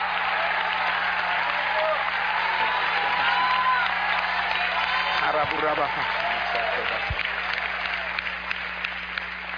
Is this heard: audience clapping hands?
yes